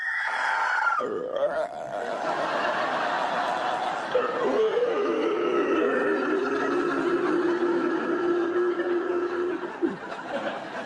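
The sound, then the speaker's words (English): A voice imitates a zombie groan, practising for a job playing zombies at Mighty Mountain's Haunted Halloween: a long, strained, wavering moan that drops in pitch and then drones on steadily for about ten seconds with raspy, breathy texture. “That's a zombie. Oh, I thought it was a goat with chronic asthma.”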